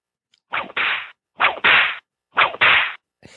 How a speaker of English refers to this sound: That whip was because you're wrong.